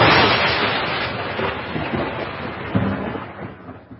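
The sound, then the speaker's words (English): A thunder and lightning strike sound effect: a loud crack of thunder bursts in at full strength, then rolls into a long rumbling decay that slowly fades over a few seconds, with no voices present. “Was that lightning that hit us? I wanted that one in there for dramatic effect.”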